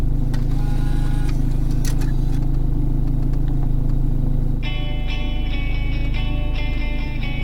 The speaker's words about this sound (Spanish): Vuelvo a coger el coche y pongo rumbo a La Eliana para hablar con el responsable de la que posiblemente sea la banda independiente valenciana más importante del siglo XXI.